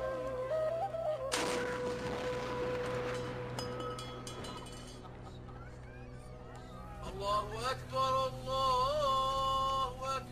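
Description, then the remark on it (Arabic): A single loud Ramadan iftar cannon blast, fired to signal the breaking of the fast, booms early on and rumbles away over a couple of seconds, with voices of people talking around it and continuing afterward. “أبويا أخاف من صوت المدفع، عادي أسد بنية؟”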